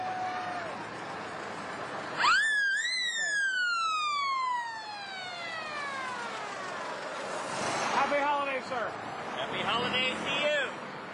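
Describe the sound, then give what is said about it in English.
A San Luis Ambulance siren in a Christmas parade blares with a sharp rise and a long, falling wail, then breaks into quick, repeated yelping chirps. Loud, with background voices and outdoor crowd noise. “And our next entrance is San Luis Ambulance.”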